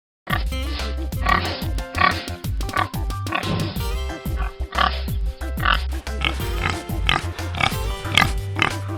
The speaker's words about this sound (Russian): Покажи, кому принадлежит этот голос. Точно, это хрюкает дикий кабан.